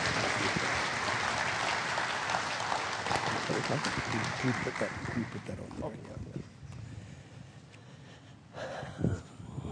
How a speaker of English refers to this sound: Clap offering to the Lord. Amen.